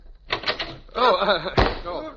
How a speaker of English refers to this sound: Oh, wait a minute. Listen. Shh. Somebody is listening at the door. I'm going to open it up real quick.